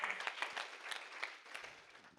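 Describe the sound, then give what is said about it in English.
A church audience claps their hands to the Lord, a dense, steady patter of many overlapping claps at moderate loudness with no voices, sustained through the whole moment. “If you know what I'm talking about, clap your hands to the Lord.”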